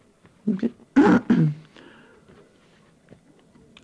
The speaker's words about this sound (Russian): Откашляться, что ли? Откашляться.